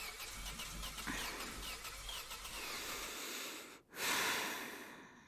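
car engine cranking

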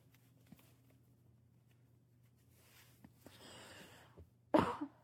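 coughing

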